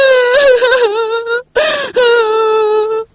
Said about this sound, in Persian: من خوش هستم. این گریه گریه خوشیست نه گریه غم.